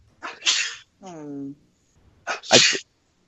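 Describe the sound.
Two sharp, breathy sneezes from a woman in an office, separated by a brief voiced, whine-like sound, coming in quick succession like a small sneezing fit.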